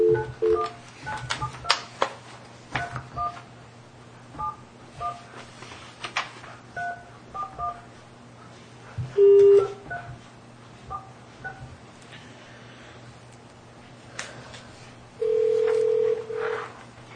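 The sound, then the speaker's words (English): A rapid series of short touch-tone beeps as a number is keyed in for a scheduled 11:15 call from Taney County, Missouri, followed by two long, steady ringback tones over a speakerphone, with a low hum underneath and no one talking. “All right, I'm going to make the phone call here for the 11:15, which we're on schedule for.”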